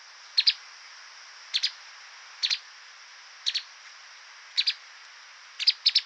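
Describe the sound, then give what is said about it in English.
A streaked spiderhunter calls in Thailand with sharp, high, doubled chips repeated roughly once a second, clear over a steady faint hiss, with no voices. “Next up is a streaked spider hunter. This bird was recorded in Thailand.”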